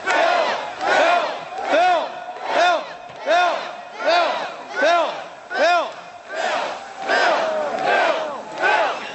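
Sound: crowd cheering and chanting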